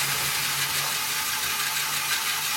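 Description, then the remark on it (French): A small motor powering a Lego fairground model whirs steadily with a faint low hum beneath a bright mechanical hiss, running continuously, with no voices. “Donc là, vous avez la partie fête foraine, où vous avez un petit moteur qui doit fonctionner.”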